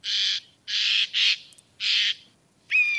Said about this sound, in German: Genau, also das ist der Eichleher, die Alarmanlage des Waldes. Dieses Ätsch, Ätsch, Ätsch, das hat man bestimmt schon mal gehört. Der warnt davor, dass jemand gerade in sein Revier eindringt. Also es kann auch von einem Menschen sein oder so.